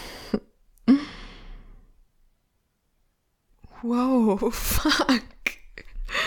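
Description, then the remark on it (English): A man's loud, forceful sneeze bursts out after a short sharp intake, followed by a pause of silence and then a startled voice exclaiming. “I didn't know all that tenderness would make you sneeze that hard.”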